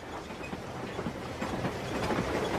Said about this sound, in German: Die Eisenbahn rattert, die Petroleumlampe an der Decke des Waggons wackelt quietschend hin und her